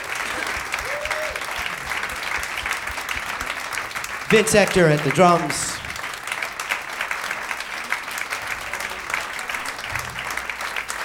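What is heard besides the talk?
audience applause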